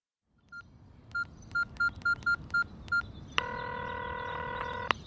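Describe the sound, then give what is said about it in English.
A cell phone number being dialed on a keypad: a series of about eight short, evenly spaced touch-tone beeps, followed by a longer steady electronic tone, over a faint background hum. “You could try her cell phone. Yes, I'll do that.”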